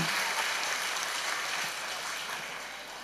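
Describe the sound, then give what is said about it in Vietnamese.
An audience applauds the youngest children, aged 3 to 5, in a dense, steady wash of clapping that lasts about three seconds and eases off slightly toward the end, with no voices over it. “Rồi, cho một tràng vỗ tay cho các bạn trẻ nhất.”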